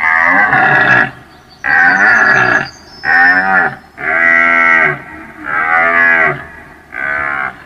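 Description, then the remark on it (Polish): Hungry cows at a farm moo loudly and repeatedly during milking, six long drawn-out calls in quick succession, with short pauses between them and no talking. “Natomiast byk no, zrobił mi w tym dniu psikusa i wyszedł sobie po prostu do rolnika, ponieważ usłyszał głodne krowy w czasie udoju i tam sobie postanowił koncert zrobić.”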